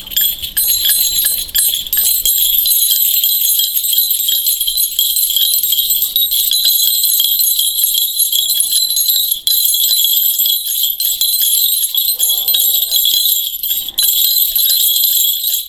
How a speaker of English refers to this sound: Till in the distance you hear the sound of bells.